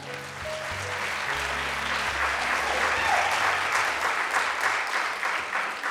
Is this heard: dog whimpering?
no